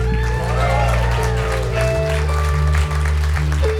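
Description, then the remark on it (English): A concert crowd applauds steadily and loudly for the whole stretch as a band's bass player is introduced, with a dense wash of clapping and some cheering while sustained instrument tones hum underneath. “Big round of applause.”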